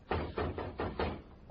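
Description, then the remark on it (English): Someone knocks at a door five times in a quick, even rhythm, each rap dull and solid, over a faint low hum with no voices. “Someone's at the door, Mom.”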